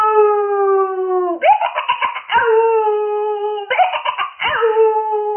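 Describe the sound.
A long, steady wolf howl sounds loud, broken twice by shaky, quavering bleats from a flock of sheep bleating as hard as they can, the wolf howling in chorus with them. The howling and bleating overlap in a noisy, continuous chorus with no talking.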